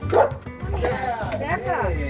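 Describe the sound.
A dog barks and yips excitedly several times at the door of a mobile home in Heartland, Michigan, its sharp calls coming in quick bursts while a person's voice talks over and between them.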